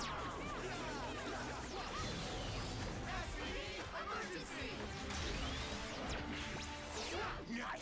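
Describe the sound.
Rapid fight punches land amid zapping, laser-like sweeps and whooshes, a loud, dense barrage running the whole time with muffled voices mixed in.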